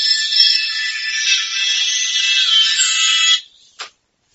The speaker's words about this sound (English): I think my doorbell was ringing. Okay, is that what that is? Did anybody hear that? Yeah, everybody heard it, I think.